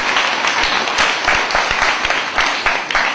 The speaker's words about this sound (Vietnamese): Rồi cô xin cho một tràng vỗ tay đã khen các em.